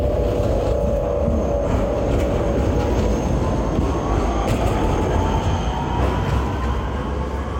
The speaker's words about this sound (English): More trams. This one is new.